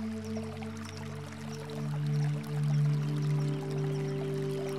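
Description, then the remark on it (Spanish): A gently flowing stream babbles steadily and continuously at a moderate level, layered over soft, sustained humming tones that swell slightly toward the middle. No one speaks. “Cierre los ojos e imagina que está sentado junto a un arroyo que corre suavemente. Sea consciente del sonido del agua que está corriendo.”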